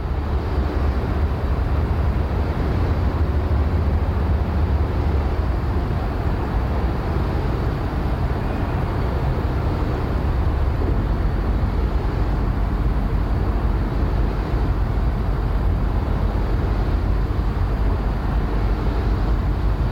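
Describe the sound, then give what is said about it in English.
A wind turbine, recorded around 10 meters away, gives a steady, loud mechanical drone, heavy in low rumble with a broad whooshing hiss above, unbroken and even for the whole stretch with no voices. “Around 10 meters from a wind turbine.”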